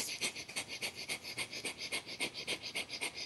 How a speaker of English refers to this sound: And then you do 2 minutes of rapid panting like this.